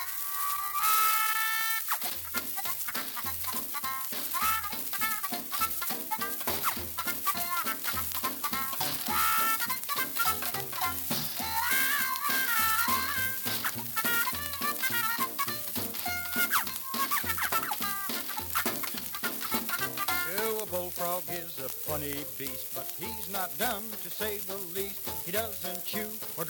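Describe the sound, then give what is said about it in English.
The old-time folk song Turkey in the Straw plays steadily from start to finish, with a bouncy, even beat and a lively, wavering melody over a constant hiss and crackle like a worn early recording. “Now, this week, the song of the week is Turkey in the Straw, provided to us courtesy of the Internet Archive.”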